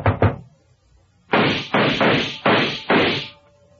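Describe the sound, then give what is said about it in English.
Two quick sharp raps, then a pause and five loud, heavy gunshots tearing through the only door on the third floor of a tenement on Forest Street, in rapid succession, each blast cracking and fading before the next. No voices. “The bullets ripped through the door as they would have ripped through me if I was standing in front of it.”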